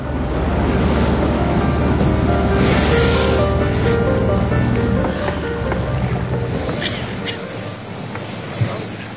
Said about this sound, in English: It's a public ferry, not a police boat.